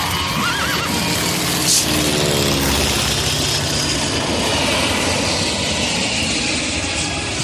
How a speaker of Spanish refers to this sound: He venido con el helicóptero de la COPE.